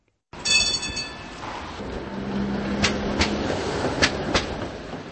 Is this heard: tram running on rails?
yes